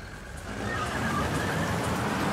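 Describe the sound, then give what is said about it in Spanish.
Marvin Wells accelerates away in a car from outside a house: the engine revs up, a steady roar climbing in loudness after the first half second and holding strong, with a rising whine over it. No voices. “Fuera de la casa, Marvin Wells aceleró.”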